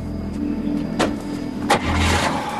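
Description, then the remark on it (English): A car engine rumbles, with a couple of sharp mechanical clunks and a rising rush of noise as an unmarked police car rolls to a stop. “Porter falls to a sitting position on the ground and the officers pull up behind him. They get out of the car.”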